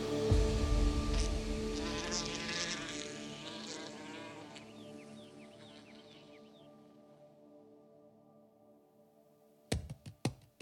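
A wasp buzzes loudly in a steady, humming drone that slowly fades away over several seconds, followed by a few sharp clicks at the very end.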